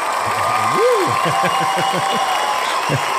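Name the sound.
audience applause and cheering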